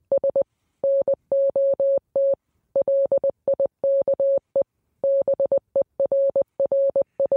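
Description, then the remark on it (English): A steady electronic tone switches on and off in a rapid pattern of short and long beeps, like a coded message, clear with no voices. “You think this is just random beeps?”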